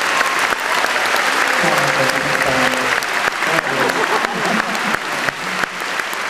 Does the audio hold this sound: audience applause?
yes